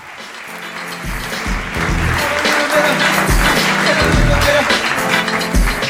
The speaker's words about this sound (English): I know, keep, please. Keep clapping, thanks.